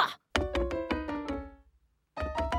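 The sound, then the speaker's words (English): A door being barged open: a quick run of heavy, rattling thuds, a brief pause, then another burst of banging. No one speaks. “Good, because I think I broke it when I barged in.”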